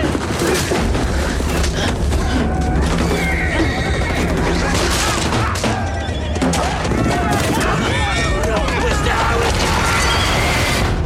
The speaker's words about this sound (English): just to give people some image in their mind of what goes with all that grunting and horse neighing, what's happening in that scene? That's the scene where he is riding a horse that he is, or a pony really, that he's stolen